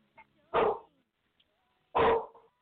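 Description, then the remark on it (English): A dog named Oliver barks twice, loud, with a pause of over a second between the sharp, full-bodied woofs and a faint yip before the first. “Oliver says bye too. Oliver says bye. Who let the dogs bye, out?”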